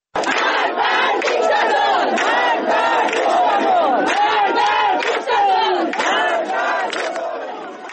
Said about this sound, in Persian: جمعی از شهروندان ایزه هم روز جمعه بر مزار حامد سلحشور گرده هم اومدن و مراسم سوم اونو با سر دادن شعار علیه جمهوری اسلامی برگزار کردن. بشنویم با هم.